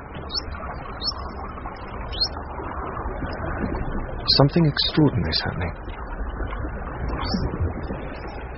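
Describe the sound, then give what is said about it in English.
High, thin whistles from Puck, a dolphin using her unique signature call, rise and sweep in short bursts, repeating every second or so, with a quick cluster midway, while a voice speaks over a steady underwater hiss. “Puck uses her unique call to identify herself to other dolphins.”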